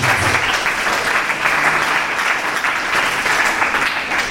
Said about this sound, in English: Clap for Jesus.